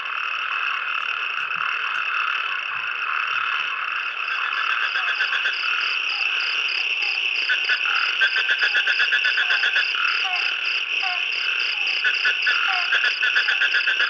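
A dense chorus of many frogs at Adayan Chavadi, in front of a guest house, calls without pause in response to falling rain, with overlapping pulsing croaks and rapid high, buzzy trills forming a loud, steady wall of sound that thickens toward the end. No one speaks.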